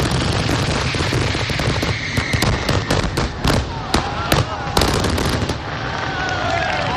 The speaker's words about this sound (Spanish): Como cada segundo sábado del mes de agosto desde hace 37 años, la playa de La Hoya se iluminaba con los fuegos artificiales del Castell de La Hoya, un gran evento pirotécnico que congrega Alejandro en Altea a miles de personas.